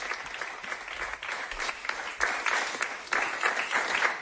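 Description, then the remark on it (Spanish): Enthusiastic applause, with Bartomeu applauding beside the Uruguayan footballer Luis Suárez: a dense, steady wash of many hands clapping that holds for about four seconds and swells a little louder in the second half, with no voices heard. “Aplaude efusivamente Bartomeu al lado del futbolista uruguayo.”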